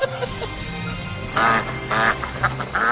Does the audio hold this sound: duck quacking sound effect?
yes